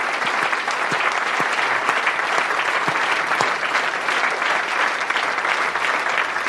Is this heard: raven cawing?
no